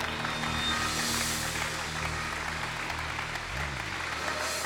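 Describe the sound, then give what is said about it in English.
An audience bursts into steady, dense clapping, a continuous wash of many hands at full loudness with no voices standing out, lasting the whole stretch. “Somebody ought to clap for that.”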